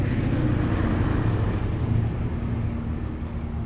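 A train rumbles past in a continuous low, heavy roar that stays steady and loud throughout, with faint humming tones running underneath and no voices.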